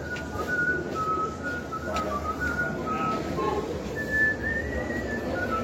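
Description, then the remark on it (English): A person whistles a thin, wavering tune in a few short phrases, playfully imitating a whistling oyster, over a steady hiss of background noise with no talking. “A Guinness oyster, a whistling oyster.”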